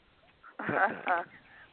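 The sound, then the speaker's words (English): A duck quacks twice in close succession, loud and nasal, a longer raspy quack followed by a shorter one, with near silence before and after. “The duck will be here.”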